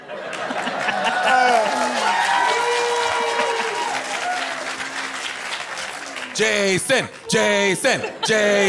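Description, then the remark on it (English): A crowd claps steadily and loudly while voices whoop and cheer over it, with a burst of rising, shouted cheers toward the end. “Now you're just giving the audience applause?”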